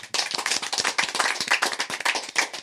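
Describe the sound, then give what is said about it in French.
Dense, rapid hand clapping from a group, a steady burst of applause filling the whole stretch with sharp overlapping claps, fairly loud, with no voices. “on peut l'applaudir.”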